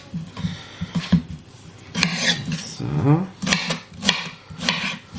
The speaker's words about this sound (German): hab ein neues Brettchen, hört man, ne? Nicht mehr so leise wie die anderen, aber ist schön. Wurde mal Zeit übrigens.